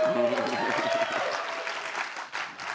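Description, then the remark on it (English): A studio audience at MSU homecoming applauds with steady, dense clapping that holds at a fairly loud level throughout. Voices cheer and call out over it in the first second before fading into the clapping. “did you prompt everyone every time I said homecoming just to applaud?”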